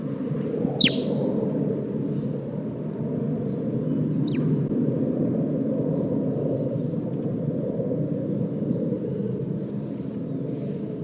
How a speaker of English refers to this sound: And 8-5 responding with a flight call.